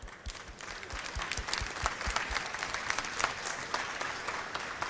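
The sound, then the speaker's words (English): An audience applauds steadily, a dense wash of many hands clapping at an even, moderately loud level throughout, with a few sharper individual claps standing out early on. “Applause.”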